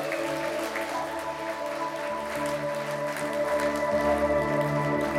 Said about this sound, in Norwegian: Et bygg til Guds ære. Skal vi gi en applaus for bygget vårt? Ja.